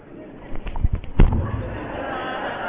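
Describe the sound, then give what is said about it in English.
A hurried burst of four or five dull hand slaps against the body, fairly loud, in a quick uneven rhythm, as a person makes a rushed sign of the cross, then quiet. “It looks like they're slapping themselves.”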